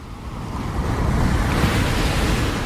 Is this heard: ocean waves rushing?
yes